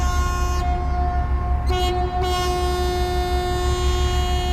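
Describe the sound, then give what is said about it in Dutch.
A boat's horn gives its departure signal: one long, unbroken blast at a steady low pitch, loud and sustained for the whole clip over the constant rumbling drone of its running engines, as the boat sets off toward the harbour of Scheveningen. “En als het goed is, dan krijg je ook nog een signaal dat we gaan vertrekken.”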